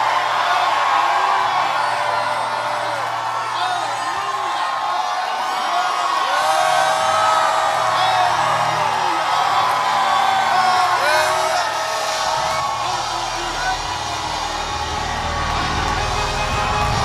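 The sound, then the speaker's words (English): A large audience screams and whoops together in a sustained, loud roar of overlapping voices, with shrill cries rising above the dense crowd noise throughout. “Keep on screaming till hell hits your body.”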